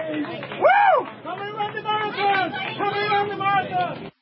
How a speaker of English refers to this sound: You hear those people yelling, Patty, stay strong. That's his wife they're yelling at.